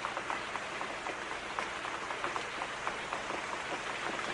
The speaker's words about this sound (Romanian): Până într-o zi, când apa a început să curgă din ceruri. Ploua, așa cum spusese Dumnezeu. Și în curând a început să plouă mai tare și mai tare.